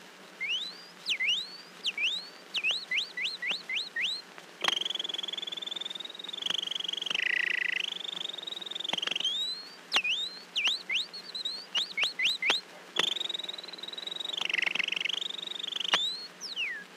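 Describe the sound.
A person whistles an imitation of canary song: quick rising chirps alternate with long, sustained warbling trills, loud, with no talking.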